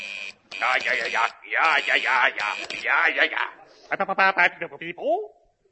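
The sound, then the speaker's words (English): A voice imitates a Morse code transmission to Von Heidelberger with a quick run of buzzy, clipped beeps and warbling tones, ending in a burst of short rhythmic pulses, fairly loud. “Quick, I'll get Von Heidelberger on the Morse code.”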